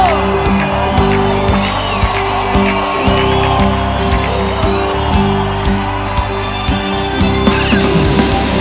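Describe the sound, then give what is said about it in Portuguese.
An audience shouts, whoops and cheers for joy, many voices overlapping in a loud, continuous swell over a steady musical drone for the whole stretch. “Dê um grito de júbilo!”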